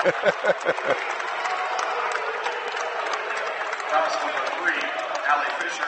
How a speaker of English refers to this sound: And as you can tell, the Minster crowd really enjoyed that call.